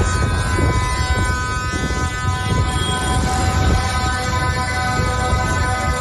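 Several horns sounded by farmers at a protest in Stroe blare together without pause, their steady overlapping tones stacked over a low rumbling drone. The sound stays loud and dense for the whole stretch, with no voices heard.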